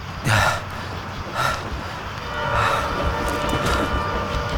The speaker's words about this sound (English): getting an upside-down view of a train light racing towards him like a one-eyed monster. He rolls onto his stomach and grins as the enormous machine bears down on him.